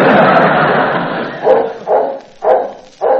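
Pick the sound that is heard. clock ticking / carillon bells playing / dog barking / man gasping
dog barking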